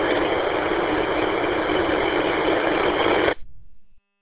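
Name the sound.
car engine idling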